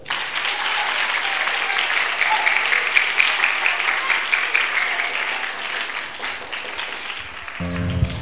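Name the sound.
audience clapping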